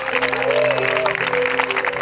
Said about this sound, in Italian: Vogliamo fare un applauso.